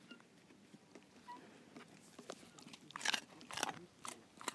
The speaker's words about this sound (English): I'm recording my dog munching on carrots.